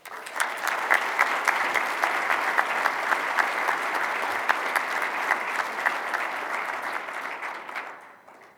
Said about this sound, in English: Let's give one more round of applause to all three of our story presenters. Thank you so much.